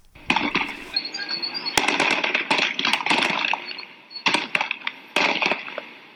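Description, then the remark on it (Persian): Gunfire crackles in irregular bursts of sharp bangs, some shots close together, over a continuous noisy outdoor background with faint voices, during a clash between protesting citizens and police officers after protesters blocked the Ahvaz–Ramhormoz road. “در برخی ویدیوهایی که در شبکه‌های اجتماعی از جمله صفحه توییتر روزنامه مردم سالاری منتشر شده، صدای تیراندازی شنیده می‌شود.”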